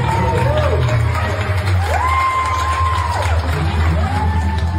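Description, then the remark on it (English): A crowd of school kids and teachers lined up in a school hallway cheers steadily and loudly to welcome a student back to school, with rising and falling whoops and shouts riding over a dense roar of voices and clapping for several seconds. “All the kids and teachers lined up in the hallway and cheered for him. Here's the applause that he got.”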